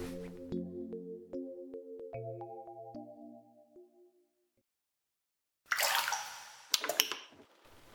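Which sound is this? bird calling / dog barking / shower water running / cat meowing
shower water running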